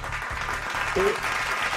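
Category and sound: crowd, applause and clapping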